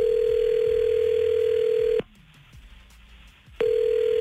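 A telephone ringback tone purrs steadily for about two seconds, goes quiet for a moment, then starts ringing again, as hosts from 99.9 Virgin Radio place a call. The tone is a loud, even mid-pitched hum with no voices.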